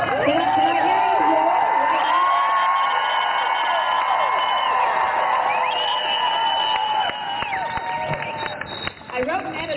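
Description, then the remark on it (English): A large crowd of protesters, Kansas women and men at an assembly of maybe 500 to 1,000, cheers, whoops and shouts continuously, many high overlapping voices forming a loud, sustained roar that eases slightly near the end. “This is the voice of Kansas women and men coming together to proclaim enough is enough.”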